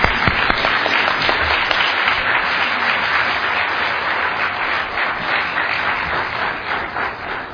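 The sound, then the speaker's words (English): A crowd applauds two men steadily for several seconds, a dense, continuous patter of many hands clapping at a fairly loud, even level with no voices over it. “Could I ask everyone to please join me in giving both of these men a good round of applause?”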